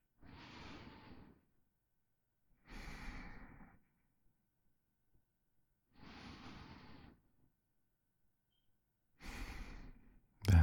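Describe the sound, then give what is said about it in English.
Slow, deep breathing with no talking: four long, airy breaths, each lasting about a second, separated by steady pauses of quiet. The rhythm is even and unhurried. “Focus on the sound of my breathing, the feeling of my chest rising and falling.”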